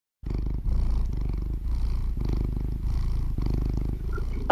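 A very round domestic cat purrs with a steady, rumbling low drone and rhythmic pulses of inhale and exhale, continuous for several seconds without any talking.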